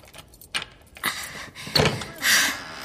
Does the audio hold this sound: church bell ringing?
no